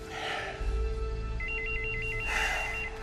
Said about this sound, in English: … answers the phone.